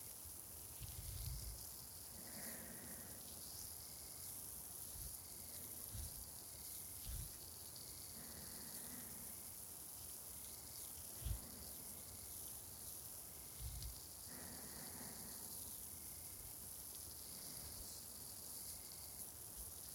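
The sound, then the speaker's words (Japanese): Continuous carbonated fizzing sits close to the ear, applied over the outer ear, a dense crackling hiss of tiny popping bubbles with occasional soft low bumps, steady and fairly quiet throughout with no voices. “お耳の外側も炭酸でいっぱい溶かしてあげます。”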